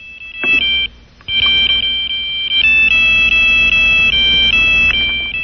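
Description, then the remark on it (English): A shrill electronic mobile phone ringtone, previewed from the phone's ringer type menu, plays a fast, repeating pattern of alternating high beeps, briefly stopping after the first burst then resuming loudly and continuously over faint background hum. “And you go into ringer type and you do that.”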